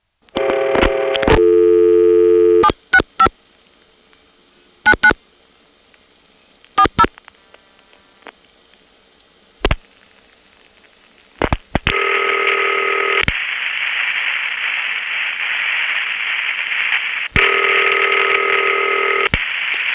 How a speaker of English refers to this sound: Alexandria's 765 exchange is crossbar 5 and has city ring.